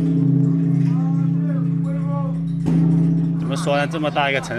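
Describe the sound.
A huge bell in China hums with a deep, sustained drone, struck once heavily for luck by a man swinging a wooden log hung on a rope midway, its low ring swelling on as voices begin talking over it.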